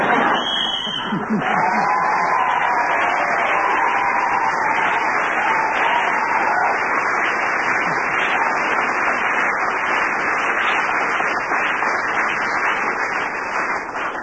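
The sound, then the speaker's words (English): A crowd applauds loudly and steadily for the whole stretch, a dense wash of clapping with some cheering and whoops, and a brief tone near the start. “Continuous round of applause must mean they were applauding the thing that we knew that hasn't gone yet”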